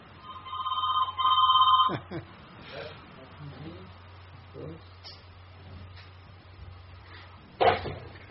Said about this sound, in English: So you're smiling because I hear a phone ringing, right?